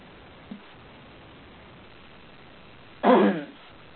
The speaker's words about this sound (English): Okay. Pardon this cough, everybody.